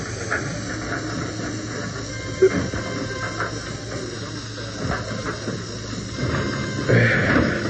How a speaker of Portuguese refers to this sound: Vou apanhar uma chave de fenda para forçar a mola da porta do elevador e abrir.